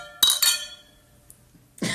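household object, glasses clinking together

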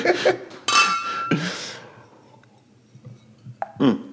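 household object, glasses clinking

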